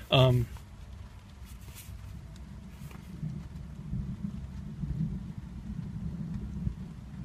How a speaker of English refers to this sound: Get some thunder there. All right, thunder is coming in.